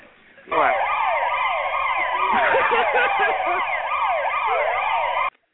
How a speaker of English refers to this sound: Why y'all always whipping out the damn sirens on me, though?